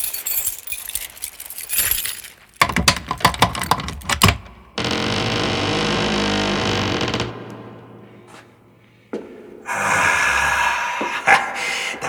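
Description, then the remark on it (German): Metallic jingling and sharp clicks of keys rattling in the lock of a cemetery mortuary door, followed by a long grinding scrape and a low hum as the door gives way, then more rustling clatter. “Auch für diese Türe hatte er einen Schlüssel.”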